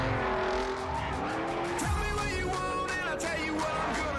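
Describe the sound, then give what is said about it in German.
A racing video game car revs hard while its tires squeal in long, wavering screeches, loud, with the engine whine rising and falling throughout. “Das ist ein Auto.”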